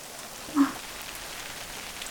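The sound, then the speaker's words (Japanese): Steady rain falls in a forest in a soft, continuous hiss, with one brief louder drop or patter standing out near the start. No voices, just the even wash of rainfall. “私は、雨は嫌いじゃないです。”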